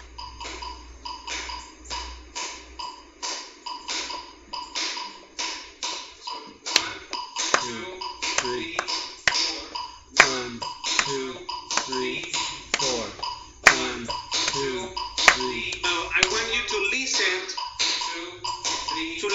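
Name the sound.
hand claps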